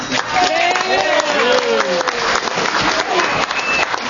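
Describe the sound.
A crowd applauds departing visitors from Hawaii, a dense, loud wash of clapping with cheers and scattered voices rising over it throughout.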